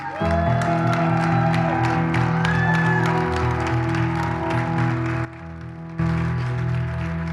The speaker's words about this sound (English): So give Pastor Rosie a big hand clap tonight.